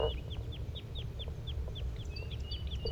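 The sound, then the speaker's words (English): A restless flock of birds gives flight calls: many short, high, downward-slurred chips repeating quickly and overlapping, with a few thin whistled notes near the end, all over a steady low rumble. “Sounds like the flock is getting restless. They're giving flight calls.”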